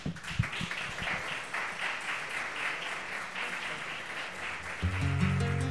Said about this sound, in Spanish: Vamos a recibirlo también con un cariñoso aplauso de bienvenida.